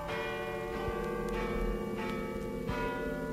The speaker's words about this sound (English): Listen, the bells. Midnight, it's Christmas.